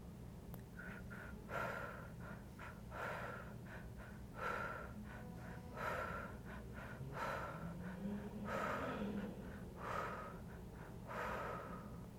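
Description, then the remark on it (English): Heavy, rhythmic breathing during a breathwork exercise repeats steadily for the whole stretch, each forceful inhale and exhale rushing into the microphone over a low background hum. No one speaks. “Keep breathing just a little bit longer.”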